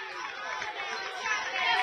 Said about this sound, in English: Cheering Kylie Hodson, the Greenup faithful.